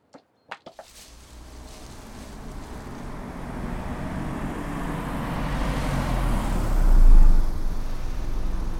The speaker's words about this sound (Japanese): あれ、うちの車だよ。探しに来るなんて思わなかった。うん、じっとしてて。ゆっくり走りながら探してるみたいだから。